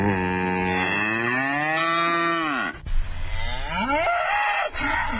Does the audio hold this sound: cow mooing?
yes